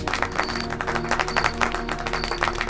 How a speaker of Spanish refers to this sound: La gente aplaude